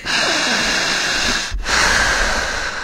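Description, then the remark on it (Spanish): A child takes two deep, audible breaths during a guided breathing exercise, a long airy inhale followed by an exhale, with a brief pause between them and without any talking. “sigue respirando”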